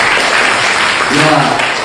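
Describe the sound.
An audience claps steadily in a dense, loud wash of applause for the full two seconds, with a brief voiced cheer rising through the clapping near the end.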